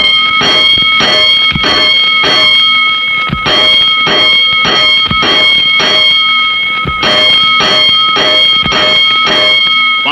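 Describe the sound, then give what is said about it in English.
Loud fire alarm bells ring insistently, sounding five bells for a five-alarm fire, a rapid metallic clanging that repeats in steady bursts with brief gaps, filling the whole span without any voices. “A five-alarm fire. Five bells.”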